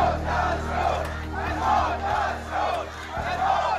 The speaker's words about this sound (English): A crowd of protesters in the Saudi Arabia village of Al-Amawiyah chanting down with the Saud, death to the Saud, after the beheading of cleric Nimr al-Nimra.